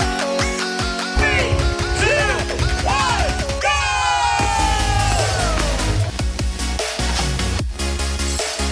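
Several voices yell and whoop with rising and falling cries, loud, over a dense, noisy background that keeps going for the whole stretch.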